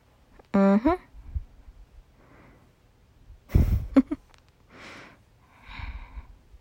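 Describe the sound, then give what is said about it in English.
A drawn-out yawn: a short voiced groan at the start, then loud breathy inhales, a snort-like rush of air and softer sighing exhales, with no talking. “Oh, that's another yawn.”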